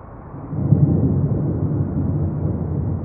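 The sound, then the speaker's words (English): A deep, continuous rumble of thunder from an approaching storm rolls in and sustains steadily, low and heavy, with no voices over it. “Storm's coming.”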